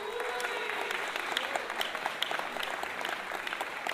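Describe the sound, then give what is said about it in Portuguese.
Sustained applause from an audience, a dense crackle of many hands clapping steadily and fairly loud throughout, with no voices standing out above it. “receba uma salva de palmas do povo da vela.”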